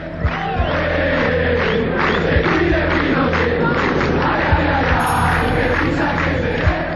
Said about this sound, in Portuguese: Nas ruas de Buenos Aires, no início de 1982, a população entoava um grito pré-guerra. "Que se cuide Pinochet", cantavam os manifestantes.